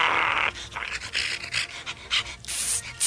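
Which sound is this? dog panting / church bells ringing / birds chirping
dog panting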